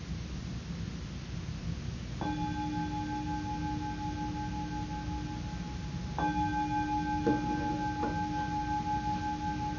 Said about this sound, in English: There's the bell. With Zoom, in order for the sound of the bell to come through, you have to